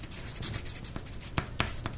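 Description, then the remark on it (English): Pencils scratching steadily across paper, a dry, raspy texture with a few sharper taps and strokes standing out. No voices, just the continuous scribbling. “She couldn't stand being in a classroom in high school with pencils scratching on the paper.”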